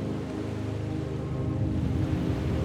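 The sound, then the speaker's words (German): Gentle water laps steadily in the harbour of the fishing village of Carapateira on the Atlantic coast, where small boats lie peacefully moored, a soft continuous wash with a low rumble underneath, moderately quiet, with no voices. “Kleine Boote bleiben heute friedlich am Hafen liegen.”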